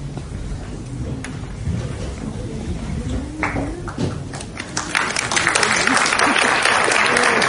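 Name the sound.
audience applause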